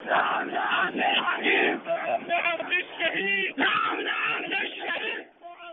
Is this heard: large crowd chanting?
yes